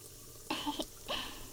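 household object, shower water running

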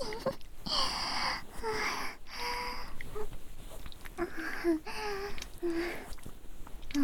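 human body sound, heavy breathing

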